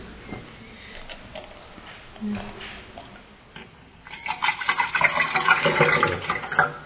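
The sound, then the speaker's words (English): Water is poured into a glass, a steady splashing gush that swells up after a few seconds of quiet background noise and fills the rest of the moment. “Would others of you like water?”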